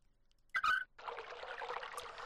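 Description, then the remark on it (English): Water gushes out steadily as very fast-acting pumps drain it, a continuous hissing pour that starts after a brief high squeal and holds at a moderate level without any talking. “Okay, so we let the water out of the...”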